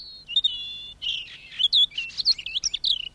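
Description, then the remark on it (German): A European robin sings alone in a quick run of high, thin warbling trills and chirps with short pauses between phrases, the notes rising and falling rapidly. “Weit fliegen konnten die Rotkehlchen in Wiltschkos runden Käfigen nicht.”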